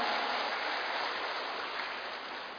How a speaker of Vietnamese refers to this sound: Và để bắt đầu chương trình ngày hôm nay, xin toàn thể đại chúng dành một tràng pháo tay thật lớn để chương trình của chúng ta chính thức bắt đầu.